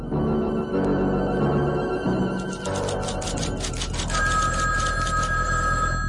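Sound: telephone bell ringing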